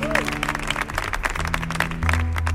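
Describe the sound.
An audience at a band's show claps loudly and steadily for a singer coming on stage, a dense wash of many hands that holds for the whole stretch, with low droning music and faint crowd voices underneath.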